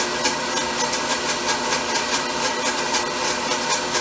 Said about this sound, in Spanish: Ahí vas oyendo cómo la licuadora va más lenta, porque ya se va poniendo cremoso. Con una consistencia diferente.